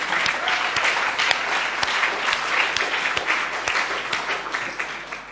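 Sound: audience applause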